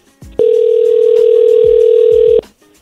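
telephone call ringing

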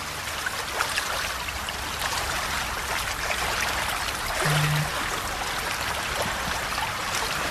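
sea water lapping

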